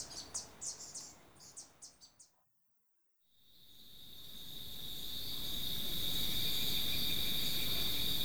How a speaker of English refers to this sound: First, I heard the insects come back.